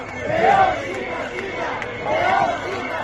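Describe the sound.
A large outdoor crowd of Leonese regionalist protesters boos and shouts in two loud swelling waves, voices merging into a rough roar, with a steady murmur in between, during Castilla y León's community day in León, Spain, forcing suspension of the Junta's events.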